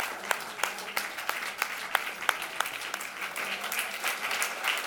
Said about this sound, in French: Est-ce qu'on peut se lever puis simplement dire merci? Merci à ton voisin. Comme un applaudissement, yes, merci. Merci les uns aux autres.